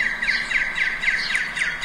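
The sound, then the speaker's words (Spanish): Many birds arriving at a bird sanctuary call at once in a dense, continuous chorus of chirps and squawks, repeating rapidly without pause, with no voices heard. “Mira, esta fue mi narración, mi crónica en un santuario de aves. Escucha. Oye las aves.”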